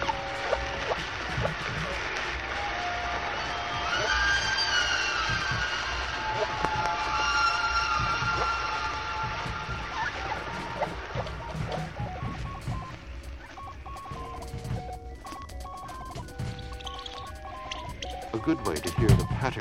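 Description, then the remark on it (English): Humpback whale song sped up fourteen times, turning into a busy stream of chirping, warbling tones and whistles, sweeping up and down in pitch over a constant watery hiss. “This song is sped up 14 times.”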